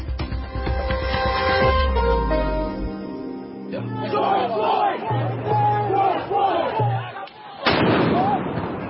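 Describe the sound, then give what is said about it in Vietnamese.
A large crowd of protesters outside the White House in early June shouts and chants "George Floyd" together, a dense roar of many voices with rising and falling cries, joined by a low droning tone and a sudden burst of noise near the end. “George Floyd là lời hô vang của những người biểu tình trước cửa Nhà Trắng trong những ngày tuần đầu tháng 6.”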